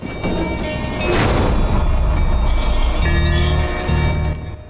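A tram rumbles loudly past as it cuts through the sun-dappled streets of New Orleans in the American Deep South, with steady low mechanical rumble, metallic rail squeal and rattling, and a brief clanging bell-like ring midway through.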